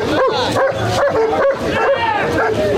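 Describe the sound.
Police service dogs bark loudly and repeatedly, sharp barks mixed with higher yelps and whines, as riot police take people to police vans while breaking up a rally of Alexei Navalny supporters, over a noisy crowd with people talking.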